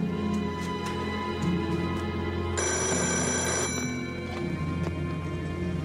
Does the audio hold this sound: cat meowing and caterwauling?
no